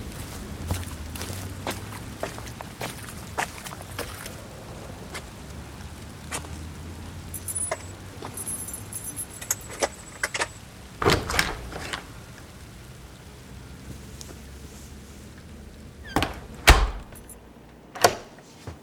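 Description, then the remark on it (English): Footsteps crunch along at a steady pace through a constant hiss of falling rain as someone who has just got out of a car walks to his door, then a few louder knocks and clatters like a door being opened near the end. No one speaks. “Someone then exits the car, which we assume is Frank, and walks in the rain to his door.”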